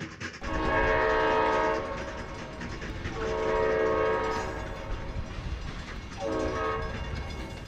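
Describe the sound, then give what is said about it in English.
A train horn sounds three long, loud blasts over the steady rumble of a passing train, the chords rising and fading as the cars roll by. “One thing the train is good for is moving mass amounts of anything, long distances in the shortest, flattest, and what used to be the quickest possible way.”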